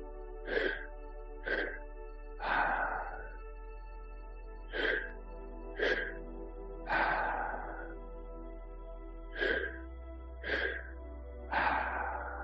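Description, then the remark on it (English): Deliberate breathing during a breathwork practice, in a steady cycle: two quick, sharp inhales followed by a long, rushing exhale, repeated three times with no talking. “All right, so if you're still breathing, you're doing great. Just stay with the breath.”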